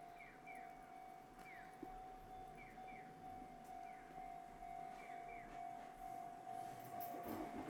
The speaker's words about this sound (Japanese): この踏切の音ってこっちのかな。